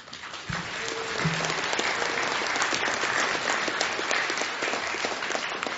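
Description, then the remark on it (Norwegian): An audience breaks into sustained applause, a dense wash of many hands clapping at steady volume for several seconds, with a couple of brief low tones at the start. “Det mulig at det både hadde raslet mer I juvelene og vært litt høyere applaus hvis vi var over I folkets...”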